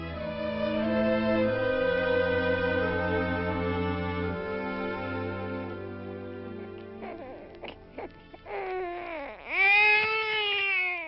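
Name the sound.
newborn baby crying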